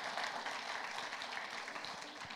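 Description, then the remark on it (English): A crowd claps steadily, a dense, even patter of many hands that holds at a fairly constant, moderately soft level throughout, with no voices standing out. “Now you guys can applaud and celebrate everything God was doing.”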